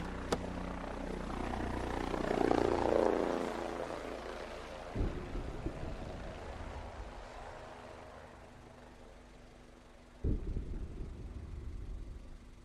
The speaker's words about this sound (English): Do you hear that? That's a helicopter.